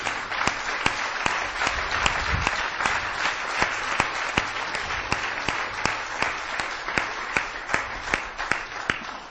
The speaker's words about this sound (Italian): L'applauso è per lui.